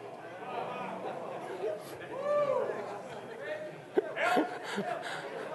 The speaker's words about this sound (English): I've never been booed in church before.